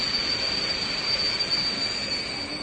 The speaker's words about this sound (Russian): Сейчас вы услышите такой неприятный звук, с которым прибывает поезд. Это такая характерная особенность поездов в Чехии.